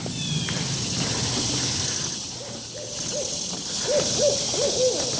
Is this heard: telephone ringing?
no